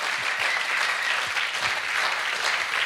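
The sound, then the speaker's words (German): An audience at a church service claps together to welcome first-time visitors, steady, dense applause, a bright continuous patter of many hands that holds at an even loudness throughout, with no voices rising above it. “Lass uns Ihnen mal einen großen Applaus geben.”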